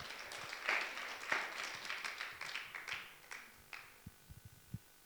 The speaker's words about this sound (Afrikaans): Kom, geef haar lekker handen klap.